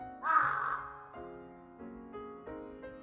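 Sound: crow cawing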